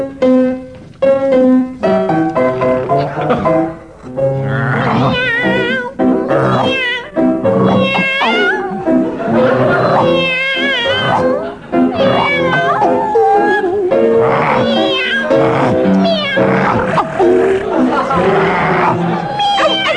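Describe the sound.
Two team members sing a song entirely in imitated animal noises for a game round, one mewing as a cat and the other howling and yapping as a dog. The loud voices run continuously for the whole stretch.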